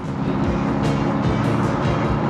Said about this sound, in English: He gets into the driver's side of the car and drives in the direction of the kids, who now cycle hard and fast to get away down a street. Dwayne and Moustache's car gains more speed.